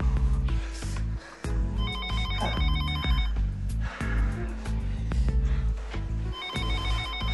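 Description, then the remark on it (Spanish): A telephone bell rings in two bursts of rapid, trilling rings separated by a pause, heard over steady background music with no one speaking. “Oye, no va a contestar el teléfono.”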